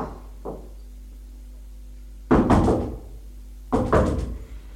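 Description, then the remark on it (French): A woman bangs on a locked door in two loud bursts of several rapid knocks each, preceded by a softer thump, with quiet stillness in between. “Court à la porte. Elle est fermée à clé. Elle tape.”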